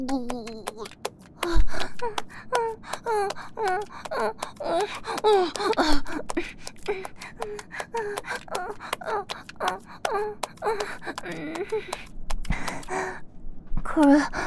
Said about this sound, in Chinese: 客人，您怎么了？这么大口的喘气，是累了吗？